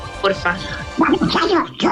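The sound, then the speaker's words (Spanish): A man does a raspy, garbled Donald Duck voice impression, a few quick sputtering bursts of squawky, quacking speech at moderate loudness, with brief pauses between them. “nosotros decimos, bueno, el de nosotros imita al Pato Donald.”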